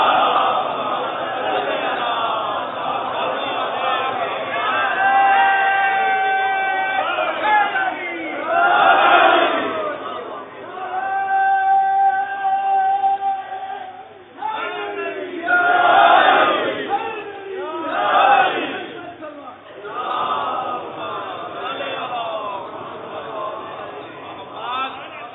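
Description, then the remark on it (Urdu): A large crowd chants salawat together in loud, rhythmic unison, voices rising in repeated swelling waves with sustained, melodic vowel tones between the surges. “صلوات پڑھ دیجیے محمد.”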